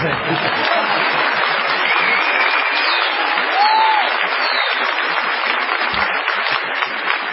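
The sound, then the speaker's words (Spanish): Sustained applause from an audience, a dense, steady wash of clapping that stays loud and even for the whole stretch with no pause. “Abrazo para el iluminador, que enciende los focos cada vez que aplaudimos, para que los aplausos se vean.”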